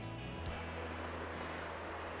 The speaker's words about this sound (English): Man, I love the sound of that river, don't you? Oh, yeah. I think that's half the fun of camping, is being next to a river or a stream and just having that sound.